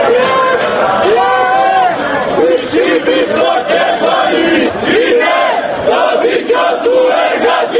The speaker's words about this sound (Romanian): Protestatarii de la Atena strigau lozinci împotriva Fondului Monetar Internațional, chemând la rezistență față de aceste măsuri.